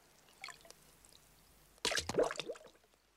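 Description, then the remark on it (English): A faint early splash, then a sudden burst of sloshing water as a small bit of driftwood is pulled out of the water, followed by a quick run of drips and trickling that fades away. “Aunt Liz pulled the driftwood out of the water.”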